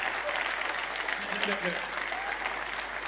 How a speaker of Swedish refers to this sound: Ge Jesus en skicklig applåd. Amen. Skicklig applåd.